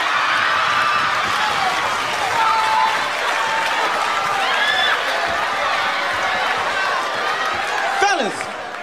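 A comedy show crowd claps steadily and loudly for several seconds in answer to the comedian's question to the ladies in the audience. A dense rattle of many hands mixes with scattered whoops and shouts before it starts to taper off at the end.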